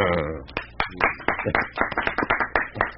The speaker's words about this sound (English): That's no need to applaud. This is a sad state of affairs.